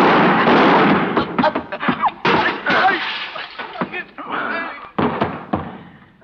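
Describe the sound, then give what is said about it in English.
A rapid, irregular volley of loud gunshots: sharp cracks overlapping a heavy rumbling roar, with a few brief gaps before the shots resume and then taper off. “Since when have you been carrying a gun?”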